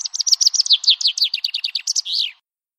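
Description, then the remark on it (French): A chaffinch sings one clear song: a quick run of bright descending notes that speeds up and ends in a brief flourish, then silence. No other sounds. “Quand un pinson fait son nid, il ne lui suffit pas d'avoir de bons gènes pour se reproduire.”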